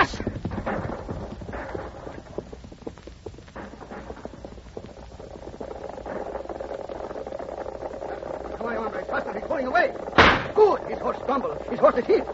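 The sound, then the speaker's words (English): A horse galloping as its rider, Lean John, flees pursuers toward Monterey, its hooves pounding in a quick, steady rhythm that runs throughout, with one loud, sharp crack breaking through near the end. “The horse is still running.”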